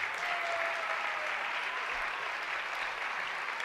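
Steady audience applause for a performer and their teacher before they perform fills the whole clip. It is a dense, even wash of many hands clapping at a fairly constant level with no voices rising above it.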